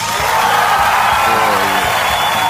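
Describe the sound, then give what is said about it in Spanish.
An applause sound effect: a burst of crowd applause, dense and steady clapping throughout, mixed with cheering and a few whoops from the audience, loud from start to finish. “El aplauso, Turito, tíralo nomás.”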